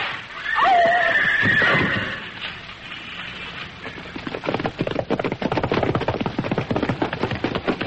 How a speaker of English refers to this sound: Then I heard a sound that froze my blood. Two horsemen, perhaps more, overtaking me. I tried to urge my horse on, and he did his best, but they were gaining rapidly.